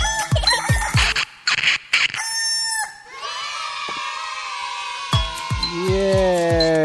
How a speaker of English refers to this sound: I like that it has the rooster because it's early morning.